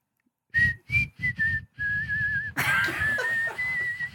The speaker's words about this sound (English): And … said it's called a palate whistle.